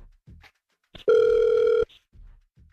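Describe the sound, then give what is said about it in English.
A single loud burst of an outgoing phone ringback tone as a call is placed to a man, a steady electronic buzz lasting under a second, with faint clicks and rustles before and after. “So we'll ask him about that if he answers the phone, okay?”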